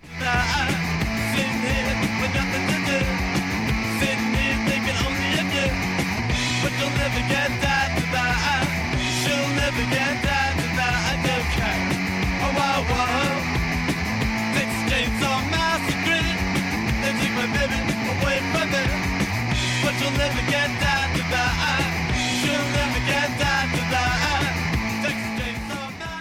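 A loud, driving punk rock song from a 1976 album plays throughout: fast distorted guitars, pounding drums and a steady chugging bass line with dense, unbroken energy and a shouted-sounding vocal feel.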